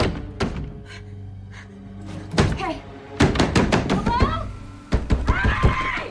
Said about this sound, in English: She walks over to the door, then struggles to open it. Desperation spreads on her face. She pounds on the door with her palms.